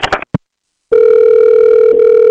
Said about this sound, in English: Hello, please leave a message after the tone.